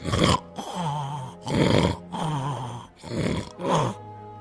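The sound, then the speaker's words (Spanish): Loud, exaggerated snoring performed by a voice as an ogre, with raspy breathy snorts alternating with deep groaning rumbles, about four heavy cycles in a steady rhythm. “Cuando terminó el banquete, volvió a su habitación y enseguida se oyeron unos ronquidos que temblaba toda la casa.”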